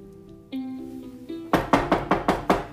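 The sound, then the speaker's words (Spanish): A quick series of about six firm knocks on a door, evenly spaced and fairly loud, sounding over a steady musical tone that began just before. “Padrino, por favor, abre la puerta.”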